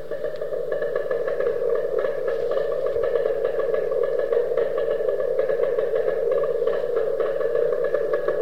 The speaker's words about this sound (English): The next signal I want to play you is from the second Chinese satellite, which when we first heard it, we tuned out as interference, but later logged as horse's hooves.